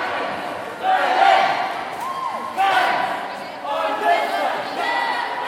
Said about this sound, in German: Der sogenannte Cheer ist ein Kurzprogramm mit einfachen Elementen, Hebefiguren und kleinen Pyramiden. Begleitet von Anfeuerungsrufen und Sprechgesängen, die dem Sport seinen Namen gaben.